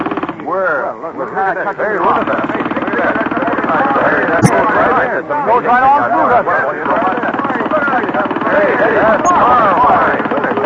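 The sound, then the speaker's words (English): A pneumatic rock drill, run on air pressure, hammers away at a big piece of rock at a rapid, steady rate, loud and unbroken for the whole stretch, its harsh rattling chatter blending with what sounds like voices underneath. “This is five times faster than any drill I've ever seen or heard of.”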